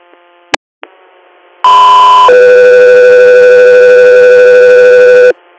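Loud two-tone dispatch radio paging alert for Guthrie Air: a brief higher steady tone gives way to a long lower one, both harsh and sustained, preceded by a couple of short clicks and faint static.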